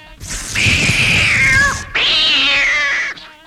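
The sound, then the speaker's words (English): A cat yowls loudly in two long, drawn-out wails with a brief break between them, the second cry rising and holding before trailing off. “Here's a cat.”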